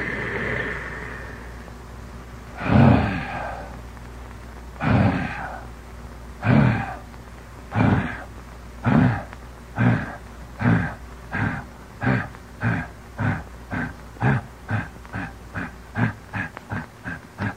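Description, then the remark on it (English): A voice imitates a steam train pulling away as the engine driver pulls down a lever: breathy, hissing chuffs start slow and heavy, then come faster and faster into a steady, rapid rhythm, with no other talk. “And when the train's about to leave, he pulls down a lever, and this livid beast is unleashed. Like this.”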